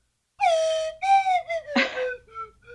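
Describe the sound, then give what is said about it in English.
A slide whistle plays a short, wavering tune of several sustained notes that bend slightly in pitch, with one breathy burst midway, clear, with no talking over it. “maybe that's the way we go out, just with the little slide whistle music.”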